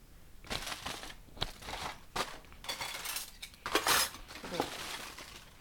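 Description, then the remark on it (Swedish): A knife and fork cut through chicken on a plate, giving irregular scraping and clinking strokes, some sharp and bright, at a moderate, fairly quiet level with no talking. “Du får ändå säga hur det känns att skära igenom den”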